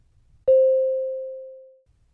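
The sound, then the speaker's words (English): A single electronic beep tone at a steady mid pitch, signalling the start of a role-play speaking exercise, starts sharply and fades out gradually over about a second and a half, with near silence before and after. “Start after the beep.”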